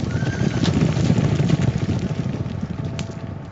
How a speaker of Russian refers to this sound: И вдруг мимо меня, погоняемый знакомыми мальчишками, промчался отдохнувший табун.